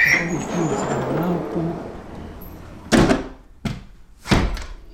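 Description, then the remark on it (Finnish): A door is pulled shut as people go back inside from the 37th floor of a building in Paris on a calm, windless day, landing as three solid clunks and thuds in quick succession after a stretch of low, rustling background noise. “Laitetaan ovi kiinni.”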